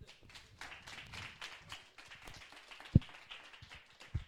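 A crowd applauds a performer being introduced, with steady, dense clapping that holds at an even level throughout, broken by two sharp low thumps near the end. No one speaks.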